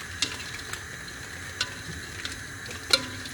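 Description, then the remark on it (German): Food for a soup sizzles in a pan on a gas stove with a steady crackling hiss, broken by a few sharp clinks and scrapes of stirring, including one louder tap near the end. No one speaks. “Heute kochen wir auf Gas. Das hören Sie bestimmt.”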